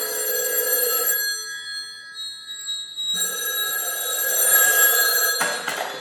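A telephone rings loudly, two long trilling bursts with a pause of about two seconds between them, and no one speaking.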